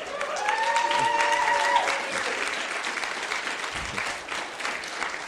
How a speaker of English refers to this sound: Yeah, let's cheer.